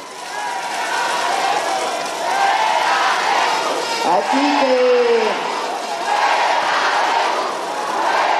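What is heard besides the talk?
crowd shouting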